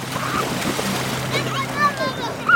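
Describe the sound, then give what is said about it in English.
Water splashes and sloshes steadily at a beach on the shore of Lac Léman in Geneva while children play, splash and build sandcastles, their high-pitched voices and shrieks mixed into a continuous outdoor wash of sound. “There, we found children playing and splashing and building sandcastles.”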